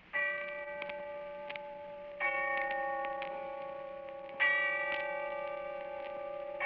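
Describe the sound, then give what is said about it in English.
A deep bell tolls slowly in the distance on All Souls' Night, three strikes about two seconds apart, each ringing out with a long shimmering hum that lingers into the next stroke; no voices are heard. “And when I heard the bell tolling somewhere in the distance, I remembered.”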